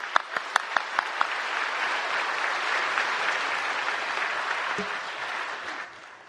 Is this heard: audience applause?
yes